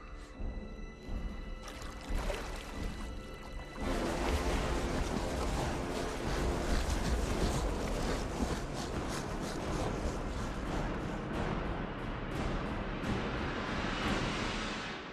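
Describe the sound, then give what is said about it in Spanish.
Rushing river water roars steadily as the river runs through rugged terrain, winding between high stone walls. It is a dense continuous churn that grows louder after a few seconds, with faint tonal music underneath at the start. “El río corre por un terreno abrupto y serpentea entre altos muros de piedra.”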